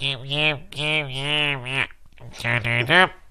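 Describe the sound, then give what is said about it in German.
A voice imitates a stuffy, congested nose from a head cold with a few drawn-out nasal vocal sounds, fairly loud, broken by a brief pause before a final burst. “Wie klingst du, wenn du verschnupft bist?”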